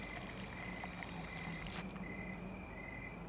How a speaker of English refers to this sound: Grover fills up a small cup of water from the garden hose.